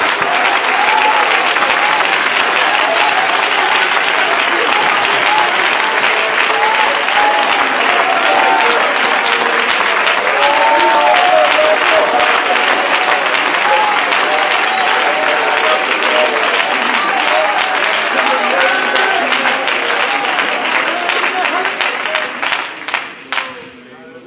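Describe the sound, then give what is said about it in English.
Sustained, loud applause of praise from a large crowd at a church service, lasting about twenty seconds, with scattered voices and cheers mixed in, before the clapping thins out and fades near the end. “Let's give them a hand clap of praise.”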